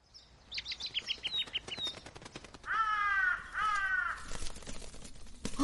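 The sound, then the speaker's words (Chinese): A young bird calls repeatedly with harsh, raspy cries, two longer bursts standing out loud, over quicker high chirps and a clicking background. “你一定是想你的母亲了，等你长大了自己飞去找母亲。”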